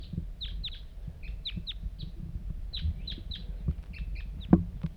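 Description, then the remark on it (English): A lone wild bird calls repeatedly nearby in the morning, giving quick bursts of high, sharp, downward-slurred chirps over a steady low rumble, with no voices. “One lone bird.”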